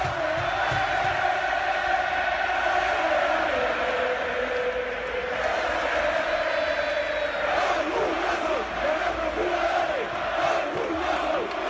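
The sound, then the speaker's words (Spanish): A packed crowd at the Metropolitano stadium sings and chants after the match in a steady, loud wall of sound, with the footballers' applause for the fans mixed into the din throughout and swelling slightly toward the end. “Son los futbolistas, los que oyen de fondo son los futbolistas. Aplaudiendo a la afición, insistimos, en una noche absolutamente espectacular.”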